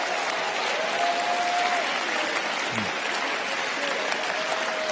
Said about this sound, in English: Please go ahead and give the Lord a big round of applause. That's a big one.